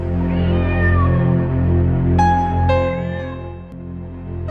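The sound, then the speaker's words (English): A cat, Dick Whittington's cat, meows several times, its cries rising and falling in pitch over a steady, low, rumbling drone that runs underneath the whole time. “Dick Whittington and his cat.”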